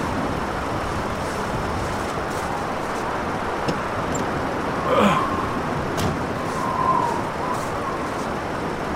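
car

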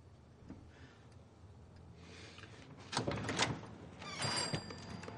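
door being opened

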